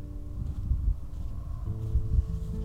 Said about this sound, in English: It is windy out here.